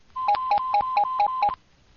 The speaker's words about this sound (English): Well, it's ringing busy. That's a good sign.